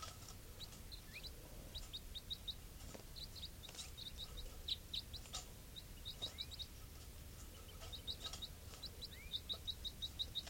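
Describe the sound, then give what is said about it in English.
Soft, high chirping calls from one wild bird repeat in quick clusters over a steady low outdoor rumble, the notes thin, with no one speaking. “Calling softly here.”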